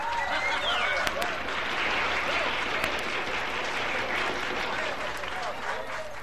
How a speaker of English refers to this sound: King Friday announces that there will be cake and ice cream, which is where we hear that I guess, canned applause and canned cheering we heard earlier.